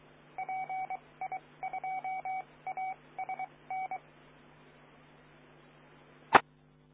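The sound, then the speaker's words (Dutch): A rapid series of about a dozen telephone keypad dialing tones, short beeps in quick uneven groups over a steady low hum, ending with a single sharp click. “Ik pak weer even de telefoon.”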